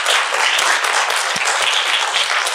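A crowd applauds steadily, a dense wash of many hands clapping at an even loudness for a few seconds with no voices standing out.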